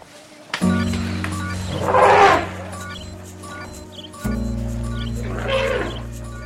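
Two loud, rough big-cat roars, one in the first half and one near the end, rising over a sustained musical drone with no one speaking.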